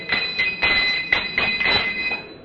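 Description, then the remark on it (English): A train door closing amid rail noise: a run of about six sharp, evenly spaced clattering thumps over a steady high-pitched whine, fairly loud, with no voices. “They close the door. Door closes.”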